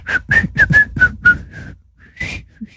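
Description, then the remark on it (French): A person whistles a short run of quick, bright notes with the mouth, then pauses and adds a couple more breathy whistled tones. No one speaks. “C'est la façon dont tu mets la bouche qui marche mieux, en fait. Siffler.”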